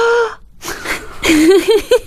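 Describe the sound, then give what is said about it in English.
A person loudly imitates the surprised gasp they made on noticing something new in a 7-Eleven: a sharp, voiced intake of breath, a brief pause, then breathy, wheezy vocal sounds with rising and falling pitch. “I noticed something new there, and I gasped out loud. I went like this.”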